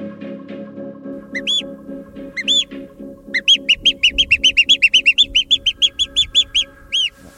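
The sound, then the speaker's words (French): A person whistles in imitation of bird song: a few separate chirps, then a quick run of about fifteen bright, repeated tweets, fairly loud over a low, steady background drone. “En fait, quand je siffle un oiseau, c'est que je me retrouve dans la même position que quand j'avais 7 ou 8 ans et que j'ai commencé à le faire.”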